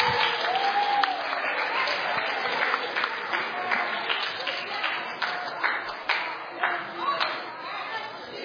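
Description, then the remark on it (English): A crowd applauds steadily for "our adulterers", a dense wash of clapping with scattered louder claps, a few whoops and faint chatter mixed in, fading slightly toward the end. “Also, let's give a round of applause to our adulterers.”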